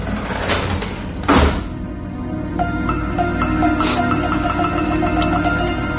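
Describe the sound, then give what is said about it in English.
A garage door being pulled down by a woman with a rope: a couple of heavy clunks at the start, then a steady rattling, grinding roll as it slowly lowers, fairly loud with no voices. “In the rearview mirror, I could see the woman, frail and slim, pulling down on the rope, and then the door slowly dropped behind me.”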